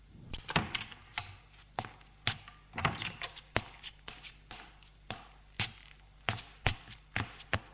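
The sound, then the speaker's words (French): Knocking on a door: a long series of sharp, hard raps arriving in uneven clusters over a faint steady low hum, with no one speaking. “L'on frappe à la porte.”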